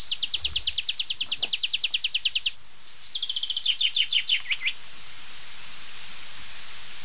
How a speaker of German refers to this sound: Und das war so eine schöne Abschlussstrophe. Sehr verschnörkelt, noch eins draufgesetzt am Ende. Mit Zia-Zia drin, klassischer geht's nicht. Da darf ich euch vorstellen, mein lieber Freund, der Baumpieper.